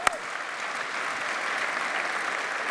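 A crowd claps steadily in a dense, even wash of applause, with one sharp louder clap at the very start and no voices rising above it.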